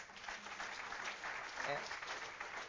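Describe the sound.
An audience claps steadily through the whole stretch, a dense, even wash of many hands. Around the middle a brief voice rises over the applause.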